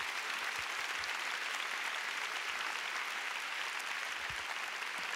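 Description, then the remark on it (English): Steady applause from a church audience giving the Lord a big hand, a dense wash of many hands clapping at an even loudness for several seconds, with no voices rising above it. “Come on, give the Lord a big hand.”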